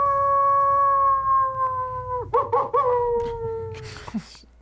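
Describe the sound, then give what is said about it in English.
A person imitates a wolf howl, one long sustained wail that wavers in the middle and slowly slides down in pitch before breaking off, fairly loud. “So you now you're doing it twice now. Okay, doing the wolf twice.”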